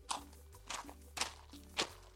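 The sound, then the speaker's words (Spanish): Four crunching footsteps on small stones outside a garage in cold winter rain, each a short gritty burst at a slow, steady walking pace, with no one talking. “Estoy acá bajo la lluvia, pero quiero que escuchen las piedritas.”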